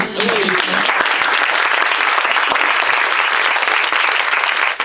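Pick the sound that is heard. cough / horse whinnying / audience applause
audience applause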